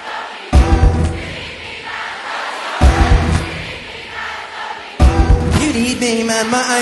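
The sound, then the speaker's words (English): An audience shouts a chant in unison, three loud bursts of massed voices repeating the same phrase in rhythm, with roomy, reverberant roar between them. “You need me, now scream it out, scream it.”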